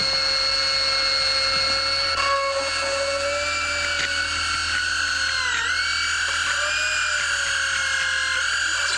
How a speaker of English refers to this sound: So, I'll just drill into a healthy tooth until I reach the pulse. Unless, of course, you can tell me that it's safe.